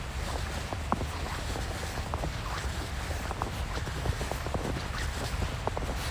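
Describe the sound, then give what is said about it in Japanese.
Footsteps crunch and squeak on fresh snow nearly 10 cm deep on the Toyohira River embankment in Sapporo, Japan, at 7:50 in the morning under a blue sky after overnight snowfall, in a steady walking rhythm, short bright squeaks repeating over a constant low rushing background of wind and river water. “朝7時50分、豊平川河川敷というか堤防、雪がやっぱり10センチ近く積もってますね。この辺はね、キュッキュッキュッキュ聞こえますかね。”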